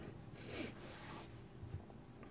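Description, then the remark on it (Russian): A person with a runny nose sniffles twice, each a short breathy hiss through the nose, followed by faint rustling and small clicks in an otherwise quiet setting. “Да, самочувствие нормально, просто нос шмыгает, а еще голова постоянно наклонена, поэтому сопли пытаются вытекать в такой позиции.”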